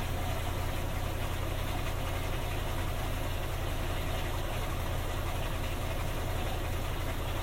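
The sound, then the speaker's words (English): A washing machine on its high-speed spin, a steady, even mechanical whir with a low humming drone and faint vibration underneath, holding constant throughout with no voices. “And this is the high speed spin.”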